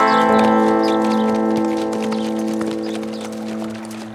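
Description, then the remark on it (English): The hooves of three riders' horses nearing a camp clip-clop in a steady rhythm over a sustained musical drone, the hoofbeats fading slightly toward the end. “Nearing the camp, the three riders came upon the company horses scattered to graze on an open flat.”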